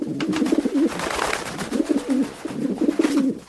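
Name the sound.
pigeon cooing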